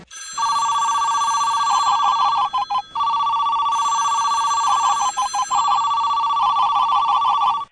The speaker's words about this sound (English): Okay, and let's hear that winning phone call right now.